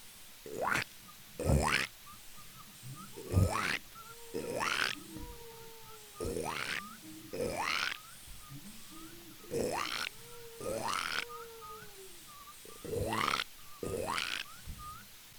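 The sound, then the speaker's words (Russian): A voice imitates a frog, making about a dozen loud, rasping croaks in a steady loose rhythm, often in pairs, with short pauses between them. “Лягушку надо добавить, или это лягушка, вот она, ну это просто вообще-то.”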